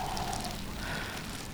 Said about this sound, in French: Ils s'arrêtent, ils repartent, vent et pluie.